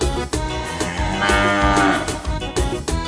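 A cow moos loudly, a long drawn-out bellow that wavers in pitch and fills the whole few seconds, with no talking.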